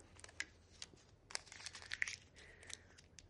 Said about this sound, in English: Now crumple it up into a piece of paper, as small as it can go.